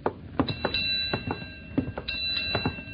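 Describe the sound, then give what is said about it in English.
A ship's bell strikes four bells: sharp metallic clangs with a bright, lingering ring that hangs between the hits, mixed with a few duller clunks and knocks, and no voices. “It's four bells now.”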